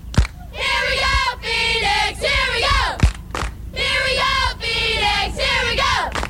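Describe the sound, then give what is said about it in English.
A crowd at Dan Marley's downtown chants a cheer for the Phoenix Suns, "Here we go, Phoenix! Here we go!", in loud unison before their playoff game against the Portland Trail Blazers, a short rhythmic phrase repeated twice, with a sharp clap or thump marking the start of each round. “Do we have a quick cheer here for the Suns?”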